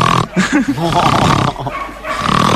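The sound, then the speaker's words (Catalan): A person imitates a dog snoring with a few rough, rasping snorts and grunting breaths, loud against a steady background hum. “Així fa el teu gos.”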